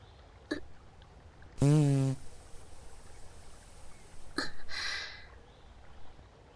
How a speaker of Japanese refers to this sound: 私が食べた森の恵みがおならとなって放たれて、鼻から入って胸を満たして痛みと疲れを和らげていく。